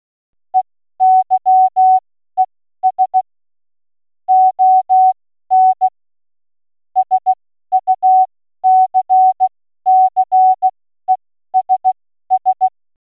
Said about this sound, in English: so I'm going to play the bit of Morse code that we played at the very beginning of the show, which is Eyes on Success, and you should be able to recognize the three short tones for each S and the three long tones for the O.